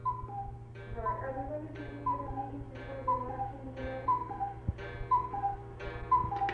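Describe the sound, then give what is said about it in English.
A cuckoo clock calls out a steady run of two-note cuckoos, about six or seven in a row, each falling tone repeated at an even pace over a faint low hum. “That was just the cuckoos of the clock that you just heard.”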